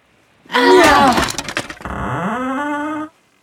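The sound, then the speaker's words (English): Children bang a table against a door to break it down, with a loud wooden crash and rattling splinter-like cracks, followed by a long, steady groaning creak that bends upward in pitch before cutting off. “The children picked up the table and banged it against the door.”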